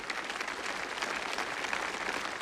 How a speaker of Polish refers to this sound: To oklaski dla Jana Pawła, dla jego nauki.